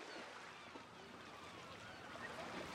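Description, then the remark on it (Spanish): A steady, hushing wash of sea waves fills the background, with faint seagull cries drifting in. The sound is quiet and continuous, with no talking. “esto es El verano, de Cesare Pavese, con fondo de mar y gaviotas”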